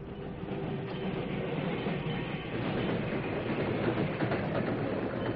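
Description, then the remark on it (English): A slow freight train bound for Junction City rolls steadily along the tracks, a continuous heavy rumble with rattling, clattering wheels and cars, loud throughout with no voices. “Fifteen minutes later, the slow freight for Junction City stopped just short of it.”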